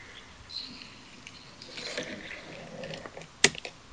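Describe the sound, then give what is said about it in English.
Quiet clattering and scattered plastic clicks as keys on a computer keyboard are rubbed and tapped while it is being cleaned, with one sharper knock near the end and no voices. “Just cleaning my keyboard.”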